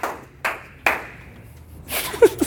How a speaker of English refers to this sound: It's a laborious clap at the end.